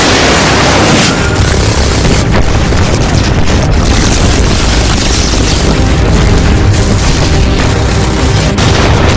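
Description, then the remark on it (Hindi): Heavy artillery shell and missile blasts roll together into a loud, continuous barrage of booms and deep rumbling, with several sharper bursts punching through, relentless, with no voices; some of the shells are coming straight toward the listeners' position. “तोप के गोले खत्म हो रहे हैं, 10 सेकंड से ज्यादा नहीं लगेंगे। कुछ गोले सीधे हमारी तरफ आ रहे हैं, तैयार हो जाओ।”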